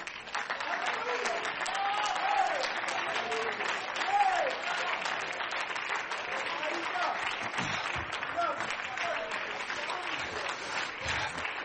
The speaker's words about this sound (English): Why don't you stand? Let's clap our hands into the Lord and bless His name.